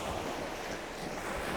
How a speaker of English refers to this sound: And the white water crashing in. They sound bigger than they are, these waves. Lapping up against the wall of the cafe.